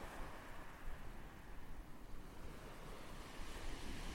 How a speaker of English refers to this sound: I'll leave you with these waves, recorded on the beach at Deal, the same rasping shingle onto which Herman Melville himself stepped ashore in 1849.